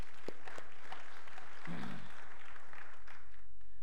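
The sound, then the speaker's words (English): An audience breaks into hand clapping in praise of God during a morning church service, a dense, steady wash of many hands applauding together for a few seconds, with a brief low murmur of voices mixed in. “Let's give God a hand clap of praise this morning.”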